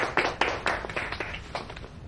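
Brief, close applause from two people: a quick scatter of sharp, irregular hand claps lasting about two seconds, moderately loud, with no talking.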